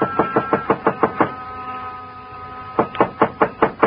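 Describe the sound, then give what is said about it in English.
Two bursts of firm, rapid knocking on the door of a small, dark frame building on a side street near the park, Joe Picatello's office and living quarters. Each burst is about seven or eight raps in quick succession, separated by a short pause, fairly loud with no voices. “But in the hope he might be asleep in his little apartment up above, I knocked.”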